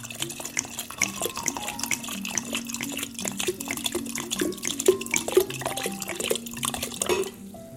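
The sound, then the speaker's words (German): About 1.5 litres of mineral water pours steadily into a serving vessel of herbal punch made with ground elder, a continuous splashing gurgle with bright fizzy hiss and a few faint clinks of glass, lasting several seconds with no talking. “Und jetzt können wir das umfüllen in ein schönes Gefäß und füllen noch das Mineralwasser dazu.”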